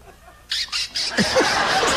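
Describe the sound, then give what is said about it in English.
A voice imitates a band of Hell's Angels roaring up on motorcycles: three short, harsh, rasping bursts, then a continuous rough, hissy roar with a couple of falling swoops, fairly loud throughout. “And a band of Hell's Angels roared up.”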